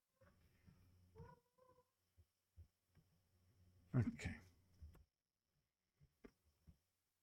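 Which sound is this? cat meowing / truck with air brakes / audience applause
cat meowing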